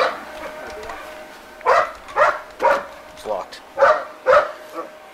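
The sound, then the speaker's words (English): During a police search after a vandalism call, dogs bark in a quick run of about six loud, evenly spaced barks, following a quieter stretch, with a steady droning hum running underneath the whole time. “Dogs are barking, the sheriff's helicopter is hovering, and the two officers whisper to each other as they search with their flashlights, guns drawn.”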